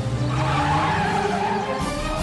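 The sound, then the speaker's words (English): A truck headbutted by a T-Rex bounces and swerves, its tires skidding and squealing over a loud, continuous engine roar, dense throughout, with a brief shift in the noise just before the end. “It bounces and swerves.”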